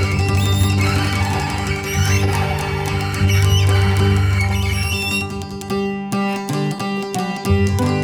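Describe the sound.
A voice imitates a young donkey's bray with loud, squawky, high-pitched cries repeated over about eight seconds, above a steady droning low accompaniment.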